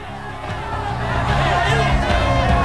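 crowd, angry crowd shouting

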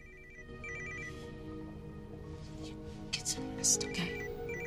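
signal or alarm, mobile phone ringing

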